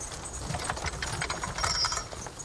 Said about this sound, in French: Un vieux cheval tire un chariot de bois fatigué. À l'arrière, un paysan buriné, vieille casquette et bleu de travail élimé.